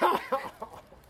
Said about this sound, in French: Ça y est, il tousse.